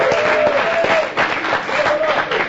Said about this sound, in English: Let us give him a full applause.